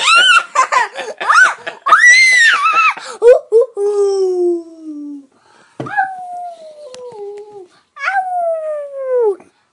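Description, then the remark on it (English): A person mimics a wolf, letting out three long, sliding howls that fall in pitch, preceded by a burst of yelping, laugh-like calls; fairly loud. “You sound like a wolf.”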